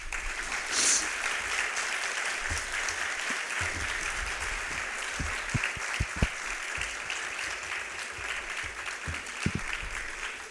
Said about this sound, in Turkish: Bu alkışlardan salonun Lüfer Devri'ni kabullendiğine dair bir mana çıkartıyorum.